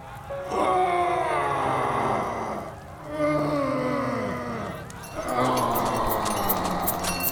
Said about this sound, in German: Die Sonne war verschwunden, aber der Feuergott Jigwi erhält den Horizont ebenso hell und durch das Murmeln der Menge, die ebenfalls fassungslos starrt, hört man die fernen Schmerzensschreie der verdammten Seele.